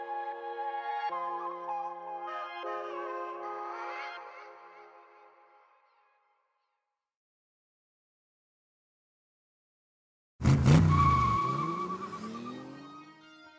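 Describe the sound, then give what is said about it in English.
A sustained, high tire squeal fades out to silence, then a rally car bursts in loud, its engine roaring with a falling pitch as it speeds past on a mountain road during the 1983 Acropolis Rally in Greece. No one speaks. “Cars gunned around perilous mountain roads, kicking up waves of ancient dust, tearing past groves of olive trees”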